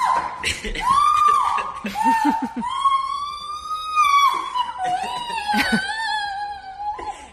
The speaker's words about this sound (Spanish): Como están escuchando... Estos gritos son de la madre emocionada, es la ¿no? madre y el hijo despiporrándose de vivo.